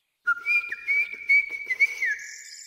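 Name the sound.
blackbird whistling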